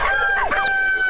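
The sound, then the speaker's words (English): A rooster crows once, a loud call with a bright, strained rising-then-falling pitch. A steady faint tone hums underneath. “Where the rooster crows.”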